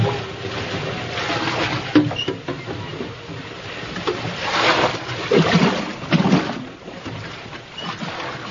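A rough storm at sea with heavy rain after the wind shifted: a dense, continuous roar of wind, rain and churning water, swelling in heavy surges around a sailing boat taking on water, loud with no voices.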